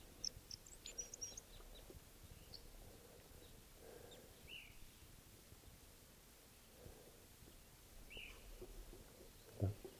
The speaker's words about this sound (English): Here's the calls of a one of the birds. Flight song of a male.